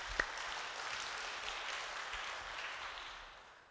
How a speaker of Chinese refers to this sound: 大家好不好给她一些掌声鼓励。